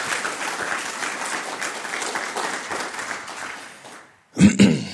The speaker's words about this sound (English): So if everyone could give their hands together, give a round of applause.